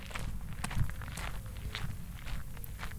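Steady footsteps walk across a hard floor entering the Museo Civico Etnografico di Stanghella, each step a sharp, moderately loud tap over a low rumbling background, with no one speaking.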